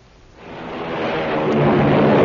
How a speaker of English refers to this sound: Hear that? It's the sound of a mighty American Airlines flagship taking off.